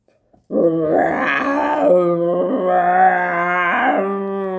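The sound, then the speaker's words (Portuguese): A bear growls in one long, loud, drawn-out rumble that rises and falls for about four seconds, with no talking around it. “A seguir apareceu o urso.”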